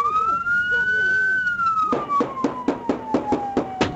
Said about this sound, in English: Warning, the clip I'm about to play includes loud gunfire and sirens.